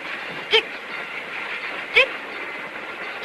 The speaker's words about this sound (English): watches the train cars speed by as they wait.